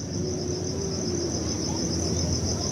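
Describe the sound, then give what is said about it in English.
Insects sing at night in a forest in a continuous, high-pitched trilling drone that never lets up, layered over a soft, steady low rumble of background noise. “But the owls and the insects were the wind and the leaves, and there was just lots of singing, different kinds.”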